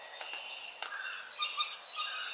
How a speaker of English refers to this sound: Well, I never thought I'd be listening to American bird song in a pandemic lockdown, but there you go.